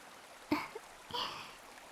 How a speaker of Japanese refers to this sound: 木々の香りに包まれて森のせせらぎや水の音を聞いているだけでリラックス効果があるようなんです。